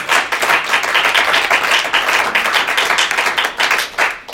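A crowd breaks into steady, loud applause for the committee that put together the constitution programming, many hands clapping densely together for several seconds before it begins to thin out at the end.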